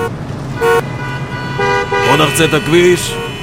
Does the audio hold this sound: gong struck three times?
no